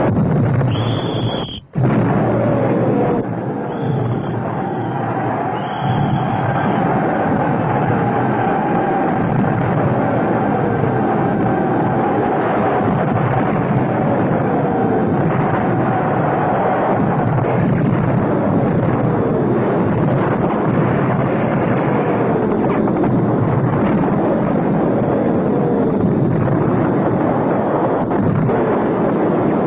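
A dense, continuous roar of artillery fire from the 75s, ordered to fire on their own position. Overlapping booms and rumbling blasts merge into a loud, unbroken wall of noise, with faint whistling tones drifting across it.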